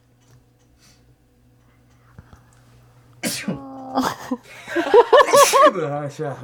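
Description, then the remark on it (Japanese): A sudden sneeze from someone who has had a runny nose bursts out after a quiet stretch, followed by a second sharp burst amid a voice speaking and a bit of laughter. “いや、どうぞ、くしゃみしちゃった。”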